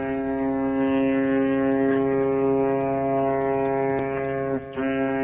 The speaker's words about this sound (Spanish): Porque como hay una República Independiente de Cataluña suspendida pero no declarada, mientras Puigdemont rinde homenaje a Companys, sonará, porque ya está sonando, el sonido, el canto de las sirenas, que es en este momento ensordecedor.